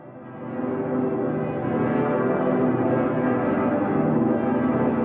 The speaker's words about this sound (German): Besondere Kostproben gibt's immer zu kirchlichen Hochfesten, dann erklingen sie nämlich alle zusammen. Der berühmte dicke Pitter und seine kleineren Glockengefährtinnen beim sogenannten Vollgeläut.